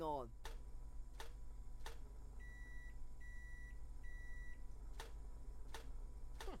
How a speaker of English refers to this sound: The toaster and the microwave. 3 short pops. 3 long beeps. 3 short pops. Sound familiar? Yeah, sounds like breakfast at Robot Jim's Diner.